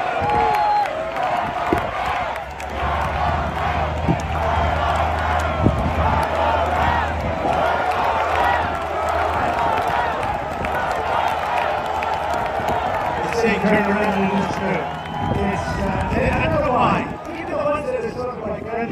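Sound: cheering rally crowd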